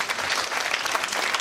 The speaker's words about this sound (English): If you're a part of Loé La Vie, stand up. Let's get a round of applause.